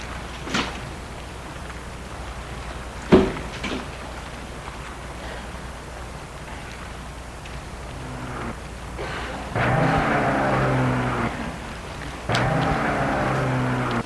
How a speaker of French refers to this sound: Elle essaye, c'est de mettre sa voiture en route. Il attend qu'elle parte. Elle n'y arrive pas.